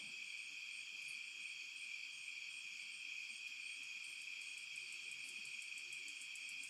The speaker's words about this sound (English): The crickets and the frogs singing their soft, rhythmic lullaby.